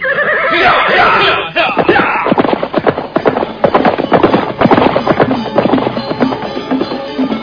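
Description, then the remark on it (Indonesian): A horse whinnies loudly at the start, then a rapid, steady clatter of galloping hooves as two riders ride away from a temple courtyard, continuing strong to the end, with no talking. “Mereka segera naik ke atas punggung kuda. Dan sebentar kemudian, mereka pun sudah berkuda meninggalkan halaman candi.”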